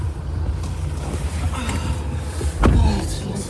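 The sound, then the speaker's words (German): A car door swings shut with a single solid thud against a steady low rumble of background noise. “Die Tür fällt zu und ich spüre sofort, wie der Druck abfällt.”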